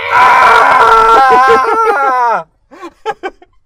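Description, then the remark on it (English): A person voices a long, loud, strained roar-like scream, imitating Godzilla's cry for a comedic voice-over of the Shin Godzilla trailer, warbling for about two seconds before breaking off into a few short, quieter vocal bursts. “Cut to, watch our new trailer for Shin Godzilla, but we do the voices. Here's Godzilla's scream.”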